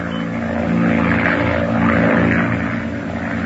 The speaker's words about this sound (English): A monoplane was observed passing over the French Channel by the fishing boat Jamarc. Passage of the machine was signaled from the semaphore stations at Cherbourg and Angelet on the coast of France.